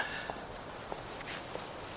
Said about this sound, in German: Da geht jemand durch die Kirche. Der hat gehört, wie du an der Tür gerüttelt hast und nun...